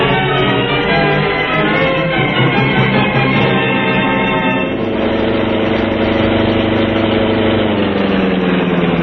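A car engine idles loudly and steadily, a low rumbling drone with a layered harmonic hum that changes character midway and rises slightly in pitch near the end. No voices.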